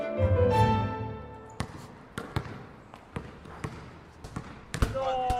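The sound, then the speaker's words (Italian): A basketball bounces on a hard outdoor court below a home while two friends pass it around, about eight or nine sharp thuds in an uneven dribbling rhythm. A voice is heard briefly before the bouncing starts. “Maledetto pallone, che poi neanche ci giochiamo noi a basket. Erano solo due passaggi con un amico al campetto sotto casa.”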